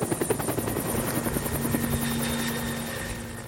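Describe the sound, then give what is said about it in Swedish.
A helicopter's rotor thumps in a steady, rapid pulse with a droning engine hum, fairly loud at first, then gradually easing off as it flies away to a nearby swimming spot after dropping off personnel. No one speaks. “Väl när personalen hoppat ur helikoptern så åker den till en närliggande badplats.”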